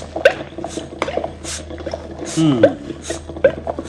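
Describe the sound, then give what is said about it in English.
Yellow liquid drips into blue liquid in a container at about one drip every two seconds, small plinking drops, slightly irregular, over a low background hiss and faint murmuring. “That yellow stuff I got dripping into this blue stuff at the rate of one drip per 2 seconds seems to be turning the blue stuff green stuff.”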